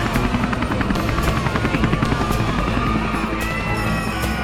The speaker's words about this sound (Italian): Infatti abbiamo oltre alla nuvola di lacrimogeni anche l'elicottero nero sopra le nostre teste, minaccioso.